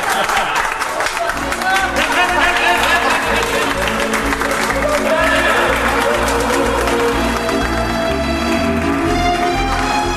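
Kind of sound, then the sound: crowd, applause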